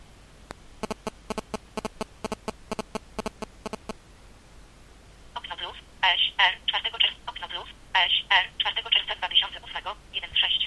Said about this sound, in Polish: Telefon delikatnie, charakterystycznie zawibruje, sygnalizując, że został uruchomiony. Powoli ładuje się system. Prosi nas o podanie kodu PIN. Kod został przyjęty.